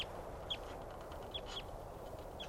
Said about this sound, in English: Recording that wild bird still calling from some distance away now. That's her.